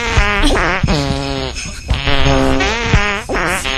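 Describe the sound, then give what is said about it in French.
Loud, buzzy fake fart noises come in about four sputtering bursts, their pitch wobbling up and down, with no talking over them. “Ah ouais, moi je vais même dire, pour annoncer tout le truc, c'est que je suis quand même le boss du fake prout.”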